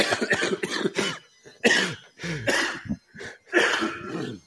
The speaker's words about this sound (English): I still got a bit of a cough from the Mexico trip, but all good.